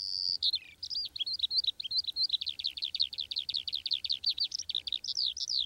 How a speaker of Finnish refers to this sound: Muistan, kun pikkupoikana vapautin kiurun, joka oli tarttunut jalastaan piikkilankaan. Jalka oli hiertynyt melkein poikki. Ja mieleeni jäi pysyvästi se, kun lintu alkoi heti laulaa, vaikka toisen jalan varpaat jäivät siihen piikkilankaan.